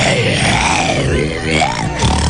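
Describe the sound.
A person imitates an ominous growl with the voice as the sound of the character Snuk, a sustained, rough, low rumbling snarl that rises and falls in pitch for about two seconds, loud and continuous with no words.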